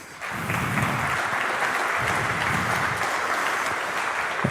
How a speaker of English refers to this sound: And just as a general disclaimer, I would like to get a little of a clap going for The Hague, because they actually fixed everything that we reported.